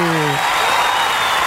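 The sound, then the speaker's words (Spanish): An applause sound effect plays: a burst of steady, dense applause fills the whole moment, loud and hissing with many hands clapping at once, with a brief low voice tone at the very start. “Eso, el aplauso. Ahí está.”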